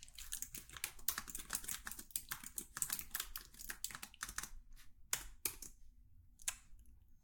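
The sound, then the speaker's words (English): Rapid, uneven clicking of keys on a computer keyboard, fairly quiet, with a brief pause before a few final taps. No one speaks. “Keep typing.”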